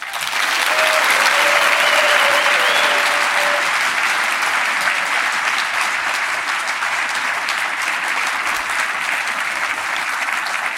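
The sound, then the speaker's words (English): Sustained applause from a large audience for the BiggerPockets team, a dense steady wash of clapping that holds at a loud, even level for about ten seconds with a brief whoop near the start. “So before we go further, I'd like everybody here to give a rousing round of applause for the entire Bigger Pockets team.”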